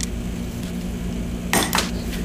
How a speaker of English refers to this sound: What is he just rolling dice? As you can see, we've actually rolled a 6 there.